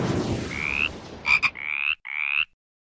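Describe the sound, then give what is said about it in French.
A short frog-croaking jingle introducing the Frog Squad segment: a sweeping tone, two quick sharp croaks, then two longer buzzy croaks with a brief gap between them. Loud, with no one talking. “Le Frog Squad! Oh, le Frog! OK, les grenouilles.”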